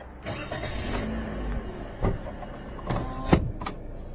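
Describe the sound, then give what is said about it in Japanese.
A car's power window whirs as it closes, a steady mechanical hum lasting a couple of seconds, ending with a few soft thuds and clicks over a low engine rumble, the car by a convenience store. “今ちょっと目の前で青年がコンビニの、ちょっと大きい声出せないな、コンビニの公衆電話の近くの灰皿のところでタバコ吸ってるんで、ちょっと窓閉めますね。”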